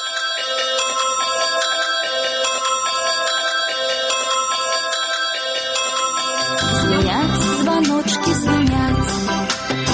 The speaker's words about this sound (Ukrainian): Звонят звоночки.